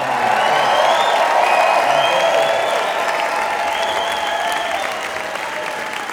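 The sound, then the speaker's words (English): An audience applauds a musician as he is introduced, steadily for about six seconds, a dense, loud wash of clapping with faint cheers and whistles rising through it, easing slightly toward the end. “Give a big hand”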